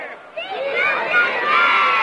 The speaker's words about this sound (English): School children cheer.